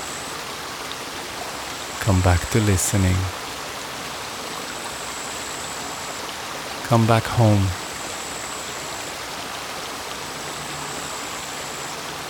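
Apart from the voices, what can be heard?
flowing river water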